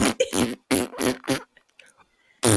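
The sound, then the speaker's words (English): A voice imitates a fart with a rapid series of loud, buzzy, sputtering bursts, then a brief quiet stretch before another burst starts. “I was gonna say, I want to make one more fart noise.”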